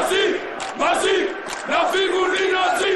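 A large group of Greek reservists parading in Athens, on the day the German leader visited during the debt crisis, shout the slogan "Nazis out" in unison, loud rhythmic chanting in three bursts with brief pauses between, voices strained and ringing together.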